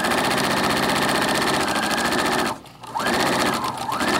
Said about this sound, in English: With no sewing room in her home, she often uses her sewing machine at the kitchen table.